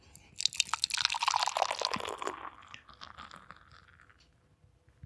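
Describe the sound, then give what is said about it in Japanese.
Fizzy, crackling Meguru Hazy IPA beer pours into a Rueda glass for a couple of seconds, then the foam keeps hissing and popping softly as it settles. No one speaks. “はい、案の定、あわあわでございますね。”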